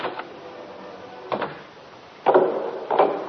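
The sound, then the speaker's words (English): A door being opened to answer a caller: a couple of soft wooden knocks, then two louder, fuller rattling bursts as the latch and door move, with no voices. “I'll just go and answer the door.”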